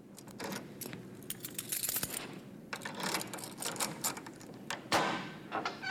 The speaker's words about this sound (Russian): из прихожей послышался звук отпираемой двери. Какая-то возня и сопение.